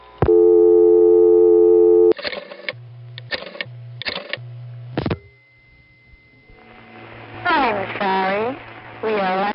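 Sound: telephone tones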